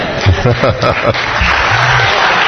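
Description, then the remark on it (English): A voice talks briefly, then an audience of women breaks into steady, dense clapping that carries on loudly as a continuous wash of applause to the end. “Now, ladies, stop clapping, because what that means is it's unfair for you to expect perfection from him.”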